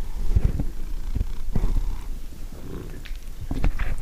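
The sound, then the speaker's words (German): A cat purrs close to the microphone, a low rumbling flutter that continues steadily with a few soft thumps and rustles, with no talking. “Hier, warte, hier musst du drin schnurren. Genau, schönes Gerät schnurren”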